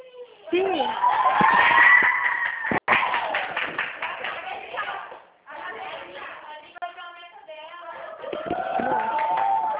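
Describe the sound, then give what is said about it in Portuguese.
Office staff shout and cheer together, celebrating reaching a target, in loud, overlapping bursts of voices, with scattered claps and thumps, briefly dipping before the excited clamor swells again. “aqui no escritório, a gritaria é aqui mesmo. É o Ah. pessoal comemorando aqui uma meta, tá?”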